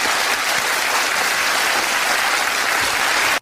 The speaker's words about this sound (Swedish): Rättssystemet fick en applåd. Ja, amerikanska rättssystemet. Ja. Eller de applåderade dem åt ett lyckligt slut som de upplevde.